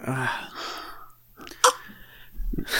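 Someone drinks water while laughing: wet gulping and slurping noises, a sharp sputtering burst partway through, and bits of laughing or throaty vocalizing mixed in, ending in a rush of breathy noise.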